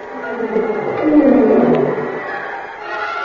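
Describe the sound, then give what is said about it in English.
A tiger named Ganges snarls and growls at a tunnel gate, trying to get into an arena: a low, rough rumble that swells to a peak midway and then eases off, loud, with no voices. “my eyes glanced to the tunnel gate where Ganges was snarling to get into the arena”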